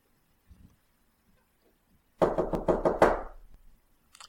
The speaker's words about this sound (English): Ah, I think there could be someone at the door. If there is somebody at the door, don't knock. Very good. If there is nobody at the door, knock 5 times at regular intervals.